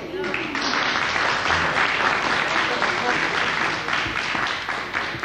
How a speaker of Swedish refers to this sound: Det är så trevligt med allsång. Det är enda tillfället man får applådera åt sig själv, faktiskt.